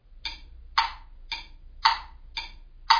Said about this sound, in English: Well, I was lying in bed this morning listening to the clock tick.